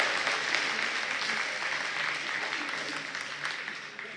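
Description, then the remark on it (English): A group claps and cheers steadily for about four seconds to cheer on a team during a game, a dense, continuous wash of applause with scattered shouts, holding level before easing slightly at the end. “Cheer them on. Let's cheer them on.”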